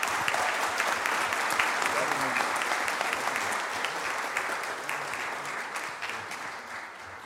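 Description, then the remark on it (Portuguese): Sustained audience applause at a sports merit medal ceremony, a dense, steady wash of many hands clapping for about seven seconds, loud throughout and fading only slightly toward the end. “obrigado por todos pela presença, obrigado pelas palmas, e vamos seguir a vida, né?”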